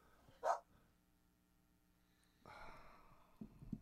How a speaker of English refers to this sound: Shh. No, see, Bear agrees with me. Bear. That little unhappy dog.